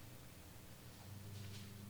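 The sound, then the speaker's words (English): A soft, diffuse rustle of many Bible pages turning at once as people look up 1 John chapter 2, swelling slightly partway through, with no one speaking. “I love that sound. Pages turning.”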